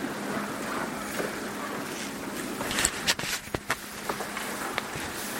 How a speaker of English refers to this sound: As I hear the rustling of the congregation, I'm so thankful for each one that's here. As I hear things being packed and put up, I understand, Father, that we have something to do and somewhere to go.